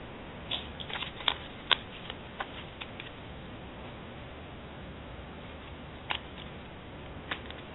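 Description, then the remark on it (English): Quiet rustle of a deck of cards being shuffled, with scattered sharp snaps and flicks over a steady soft hiss, and no one talking. “I'm shuffling the cards.”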